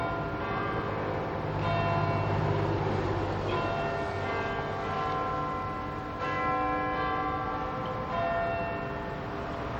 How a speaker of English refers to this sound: Okay, I think we're under a minute for the chimes of Big Ben to begin. And this is a sound that's heard throughout the world, and I guess it represents...